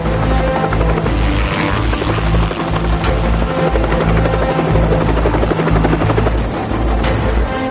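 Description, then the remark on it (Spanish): A squadron of four Little Bird military helicopters backed by four Black Hawks, launched from US ships off the Somali coast, roars loudly overhead: a dense steady thump of rotor blades and engine whine that fills the whole stretch without pause, with no voices. “Cuando salen de la capital, un escuadrón de 4 helicópteros Little Bird, apoyado por 4 Black Hawks, sale de los buques estadounidenses apostados en la costa somalí.”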